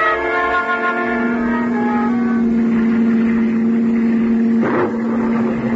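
A car engine drones loudly and steadily at high revs as the car races across the English countryside in driving rain, swerving along a narrow cliff road; a constant humming roar over rushing road noise, with a brief whooshing burst near the end.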